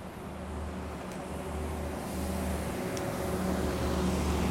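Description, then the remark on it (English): A northbound number 300 city bus rumbles low and steady on a road wet from recent rain, growing slightly louder as it approaches, with a broad hiss of tyres and traffic noise; no one speaks. “Hey, northbound 300 bus here comes the southbound.”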